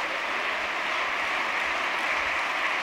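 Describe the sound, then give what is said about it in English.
An audience claps their hands together to give God praise, a steady, dense wash of many overlapping claps, sustained and even in loudness for the full few seconds with no voices on top. “Oh, let's clap our hands and give God praise.”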